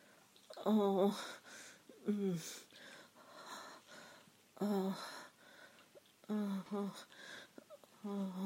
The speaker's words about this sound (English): If I add some heavy breathing, and moans, does that help?